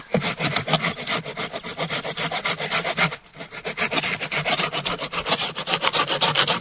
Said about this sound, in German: Wir haben das jetzt hier raufgelegt. Wir haben das jetzt auf den Stamm gelegt, genau. Und dann ich säge jetzt einfach mal los. Jetzt einfach mal los.